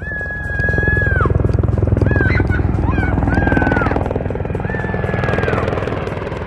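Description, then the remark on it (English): Attack helicopter rotors thud steadily overhead outside Kandahar in southern Afghanistan, where NATO and Afghan soldiers are fighting the Taliban. The loud throbbing swells and eases as they circle, with thin whistling tones rising and falling above the engine noise. “Attack helicopters and warplanes circled overhead, and sporadic explosions could be heard in the distance”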